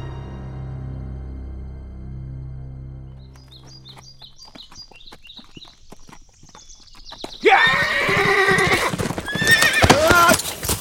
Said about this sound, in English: The horse reared up in fright, and Pete Drew felt himself jerked from the saddle and slammed to the ground.